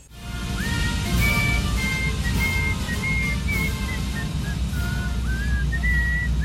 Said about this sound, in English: Will you stop whistling, please? I'm trying to sleep over here.